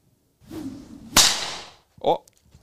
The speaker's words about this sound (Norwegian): Den var litt, ja, den var litt lav. Det betyr pisken.